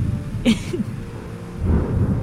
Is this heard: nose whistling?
no